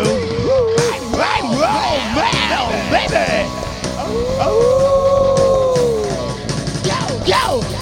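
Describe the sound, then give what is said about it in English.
Several long, wavering howls rise and fall over a steady background, one drawn-out howl swelling in the middle, with shorter yelping cries around it, loud, like a dog or wolf. “Howling at the moon.”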